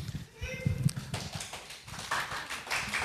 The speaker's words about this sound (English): Thank you. Thank you for that applause, everyone.